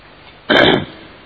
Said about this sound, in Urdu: جہاں کھانسنے کی آواز آ رہی ہے آپ کی.